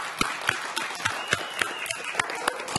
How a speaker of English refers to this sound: Okay, for the rest of you, we need to give the moms a round of applause, don't you think?